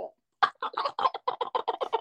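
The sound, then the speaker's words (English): A voice imitates a wild turkey's gobble: a quick, loud, rattling burst of about a dozen throaty pulses over two seconds, after a brief low note. “So anyway, we got turkeys gobbling.”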